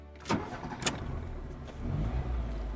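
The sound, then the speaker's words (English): A car engine cranks with a couple of sharp bursts, then settles into a low, steady rumble that swells slightly as the vehicle gets going, heading north on the 110 out of downtown Los Angeles. No one speaks. “I'm in my car now, contemplating this crazy legal system of ours that allows a con woman complete control of a mentally incapacitated man's life.”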